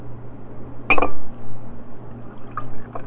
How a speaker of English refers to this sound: Here, have one more bite of this and I'll pour you some juice. Good. Okay. Now I'm going to pour you some juice.